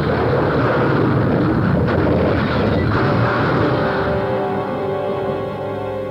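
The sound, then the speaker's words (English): A car crash after a tire blowout: the car skids toward the road edge, hits a rock and rolls. A loud, continuous roar of tumbling metal, sharp bangs around two and three seconds in, then a grinding, whining drone that slowly fades. No one speaks. “a tire blew, and the car slewed, sliding toward the road edge. Then we hit a rock and went rolling.”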